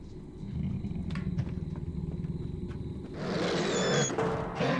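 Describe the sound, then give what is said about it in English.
A large creature pants heavily as it whips its head around and stands up, rough breaths pulsing in a steady rapid rhythm, then swelling into a louder, harsher rasping exhale near the end. No one speaks. “The creature whips its head around, panting heavily, and stands up.”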